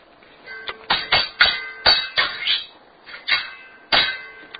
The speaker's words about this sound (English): And he swished his stick through the air, crashing it onto the floor. But he had knocked the jar of oil off the shelf. The jar was smashed to bits.